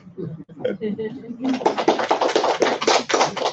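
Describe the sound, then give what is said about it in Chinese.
A brief spoken phrase gives way to a quick run of hand claps as the speaker applauds himself, about a dozen sharp, even slaps in a steady rhythm, fairly loud and lasting around two seconds. “我要不要给自己拍拍手？”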